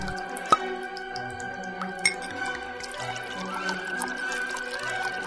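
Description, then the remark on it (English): Water drips into a bathtub filled with hot water and bubbles, two sharp plinks standing out over soft, low sloshing and a steady background hum, with no one speaking. “I'm sitting here in a tub of hot water, surrounded by bubbles”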